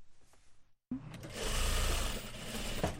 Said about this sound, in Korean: 서울 금천구에 위치한 작은 봉제 공장. 이곳에 10명 정도 되는 직원들이 열심히 재봉틀을 돌리면서 일하고 있습니다.